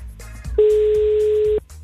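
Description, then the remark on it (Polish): One telephone ringback tone, the first ring of a call being placed to a listener: a steady, fairly loud one-second beep over a quiet line, with low background hum before and after and no one speaking. “No to powiem tak, właśnie teraz dzwonię i mam nadzieję, że nie będzie to numer zajęty.”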